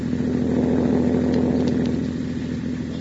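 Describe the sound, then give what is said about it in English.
A car engine hums steadily at low pitch as the car rolls down deserted State Street in River's End at 2 a.m., a smooth continuous drone with no voices, even in loudness. “It is 2 a.m., and the folks of River's End are all sound asleep as Judy's car rolls down deserted State Street.”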